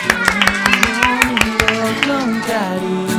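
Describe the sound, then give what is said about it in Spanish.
Applause for the artists: sharp, steady claps ring out in a quick rhythm for a couple of seconds, mixed with sustained voices, then the clapping fades while the voices carry on. “¡Aplauso grande a sus artistas!”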